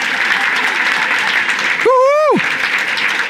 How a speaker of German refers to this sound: Jetzt sind wir speziell die Latinos ehren und geben ihnen einen grossen Applaus.